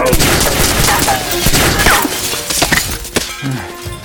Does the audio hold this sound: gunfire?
yes